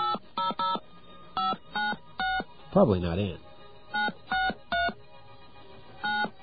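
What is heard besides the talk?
touch-tone telephone dialing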